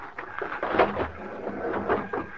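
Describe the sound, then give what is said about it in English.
A fist pounds on the door of a railroad baggage car in a series of dull, uneven thuds, a few blows in quick succession with short pauses between, moderately loud with no voices. “As soon as the crowd left the depot, we walked down to the car, crawled under it, and pounded on the door on the other side.”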